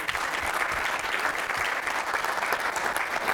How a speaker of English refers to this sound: Well, let's give her a clap and get her up here.